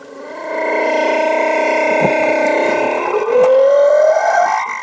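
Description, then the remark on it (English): A slowed-down humpback whale mating call: a long, loud, droning moan with rich layered overtones, ending in a smooth upward-sliding wail. No voices. “I think that might have been the mating call of a humpback whale just slowed down a little.”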